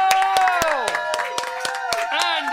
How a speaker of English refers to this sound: So once again, thank you to... Let's have a control round of applause